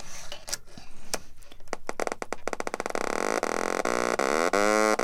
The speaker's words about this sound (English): So what I have is a power bit, which is blue, and I'm going to snap it into an oscillator, which is generating the sound wave, and a speaker. And now I'm tuning the oscillator.